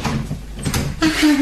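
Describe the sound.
A door opens with a short scrape and thud, then a low, drawn-out creak as it swings. Faint voices murmur in the background.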